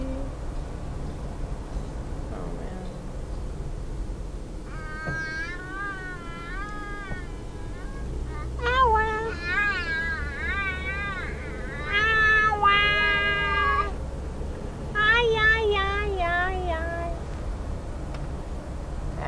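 A cat meows repeatedly in drawn-out, wavering cries, several in a row from about five seconds on, clear over a steady low background rumble.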